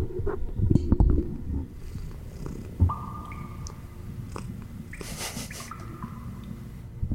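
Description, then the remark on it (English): A female cat held up to the microphone, with a low purring rumble and handling noise throughout, broken by a few short, steady-pitched chirps or mews. No one speaks. “Mic up the cat.”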